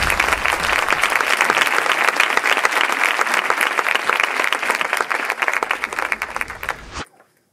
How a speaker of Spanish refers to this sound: Un fuerte aplauso.